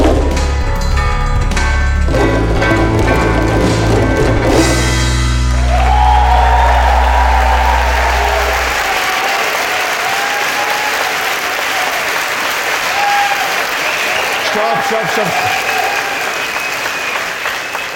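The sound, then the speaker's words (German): An audience breaks into sustained, dense applause for a group that has just played a solo, carrying on steadily for the whole stretch, while a loud low droning tone sounds under it during the first half before fading out. “Und wenn die damit fertig sind, dann gebt ihr denen bitte mal einen Applaus.”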